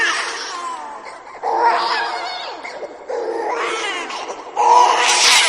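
A baby's cry plays from stereo speakers beside a computer: loud, wavering wails, four bursts in quick succession with brief breaths between, unaccompanied by talk.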